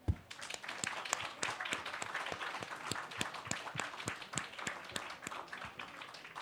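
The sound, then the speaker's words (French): Steady applause from an audience thanking the speakers of a round table at the Marché de la Poésie fills the whole stretch, many hands clapping at once in a dense, continuous patter with a few sharper individual claps standing out, at moderate volume and with no talking. “Je tiens d'abord à encore remercier chaleureusement nos interlocuteurs qu'on peut applaudir.”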